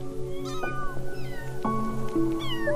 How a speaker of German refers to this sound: Genauso verfährt die Katzenmama mit Baby Nummer 2, 3, 4 und 5. Wow! Das sind aber viele kleine Katzenbabys.